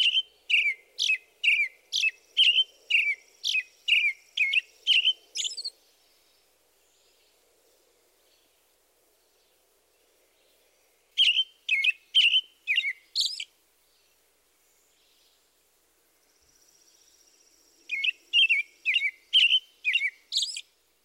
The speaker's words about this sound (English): Let's start with the American robin, whose song best exemplifies this group. The robin's song is a lengthy carol consisting of a series of short, up-and-down phrases. Here it is.